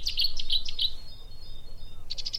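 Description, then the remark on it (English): A little brown bird that skulks in the undergrowth bursts into a loud, explosive song of rapid, ringing high notes, each burst lasting two or three seconds with a nightingale-like quality, pausing briefly before another sharp volley, heard clearly with no voices. “you can suddenly hear this explosive song, which every time it sings, you think, did I hear that?”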